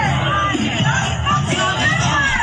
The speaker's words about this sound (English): Here's the protesters outside of the white liberal's house. Don't destroy anything. Be peaceful, he's saying.